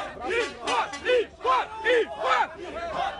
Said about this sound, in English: In Brazil, thousands of protesters are in the streets. This crowd was outside the presidential palace.